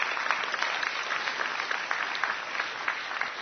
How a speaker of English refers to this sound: All right. Let's give Chris a nice round of applause.